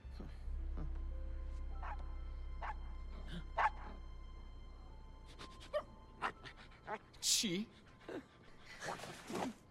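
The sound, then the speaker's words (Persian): A small dog yips and barks in a series of short, sharp bursts, some rising into quick high squeals, over a low steady hum, moderately loud. “هاپو، تو اینجا چی کار میکنی؟”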